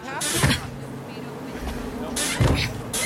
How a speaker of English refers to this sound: Hang on a sec. The door is stuck.